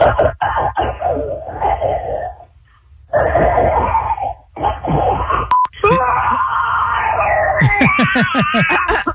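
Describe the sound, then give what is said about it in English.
A voice imitates a dinosaur roar in a voicemail entry for a dinosaur roar contest, over a tinny phone line: loud, raspy growls and strained shrieks broken by short pauses, ending in a burst of rapid, pulsing high-pitched cries. “the dinosaur roar is near impossible to pull off”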